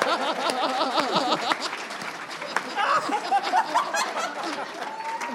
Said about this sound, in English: Hey! Stand up! Stand up when you clap for this man!